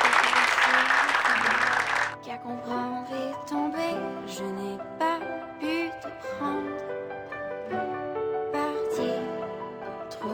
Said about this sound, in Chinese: 拍拍手。 自己拍。